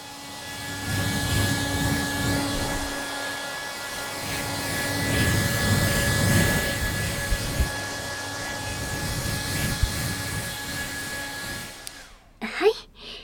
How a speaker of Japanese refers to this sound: 最後にドライヤーでしっかりと乾かします。